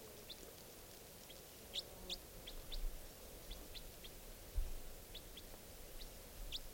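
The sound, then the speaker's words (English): A juvenile wild bird calls with a string of short, high-pitched chirps at irregular intervals, fairly faint over a steady background hiss and a couple of soft low thumps. “Pointed at the wild bird.”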